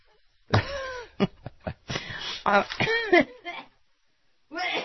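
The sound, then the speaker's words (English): A loud coughing fit: a rapid series of harsh, hacking coughs and throat-clearing bursts with strained, groaning breaths between them, trailing off before one last rasp. “Did you cough it up?”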